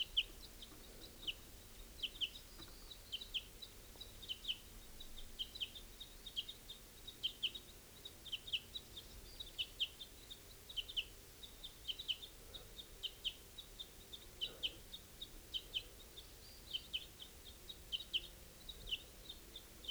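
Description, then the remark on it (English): Adult birds feeding their young call repeatedly in short, high chirps, a steady stream of quick peeping notes, with no talking over them. “Adults feeding young here.”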